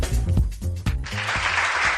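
A brief stretch of tonal, music-like sound gives way to applause, a dense, steady crackle of many hands clapping that fills the second half at a moderate, even level.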